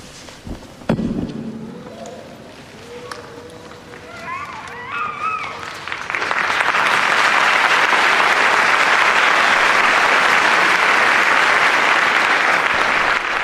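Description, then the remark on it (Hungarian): A short stretch of chanted singing gives way to a sudden burst of applause from a large church audience after the blessing that ends the service, loud, dense and steady, continuing without pause until the end. “A szokásos nagy taps a befejező”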